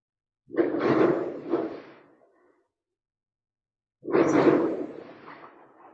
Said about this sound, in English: My husband tells me they're fireworks. So here we have fireworks.